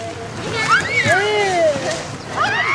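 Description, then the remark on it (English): About six toddlers play in the woods, chasing each other through the trees: high-pitched squeals and babbling voices gliding up and down over a steady rustling background, with no clear words. “Here's a gang of about six toddlers running around the woods, parents back a ways with their video cameras, but kids out there anyways.”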